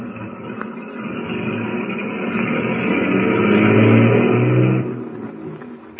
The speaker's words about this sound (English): Saved from almost certain disaster, Tumbleweed's motorcade of tank trucks continues on its way to the Bear River Refinery.